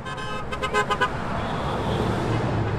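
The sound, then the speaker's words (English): A rapid series of short car horn honks, roughly five quick toots, from motorists crossing the Saconnet River Bridge on a Sunday evening in support of about 100 toll protesters, rises over a steady wash of road traffic noise, with the honking fading after the first second. “Motorists honked in agreement.”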